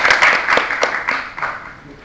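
An audience applauds, a dense, steady patter of many hands clapping with sharp bright transients, fairly loud and gradually tapering off toward the end.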